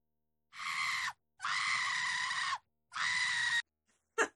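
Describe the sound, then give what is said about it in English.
Three loud, sustained screams follow one another with brief gaps, then a short sharp cry at the end; shrill and harsh, with no talking over them. “They were screaming.”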